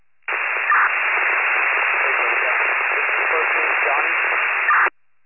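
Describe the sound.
A steady, tinny burst of radio static hisses for several seconds with a muffled, garbled voice buried in it, punctuated by short louder crackles near the start and end.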